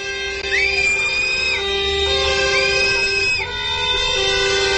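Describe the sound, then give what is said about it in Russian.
Protesters at a rally over a new state programme for monitoring working conditions whistle and shout: two long, shrill whistle blasts, each swooping up and then holding steady, ring out over a constant roar of crowd noise and dense overlapping tones. “Вот так, свистом и криками, митингующие выразили свое отношение к новой государственной программе мониторинга условий труда.”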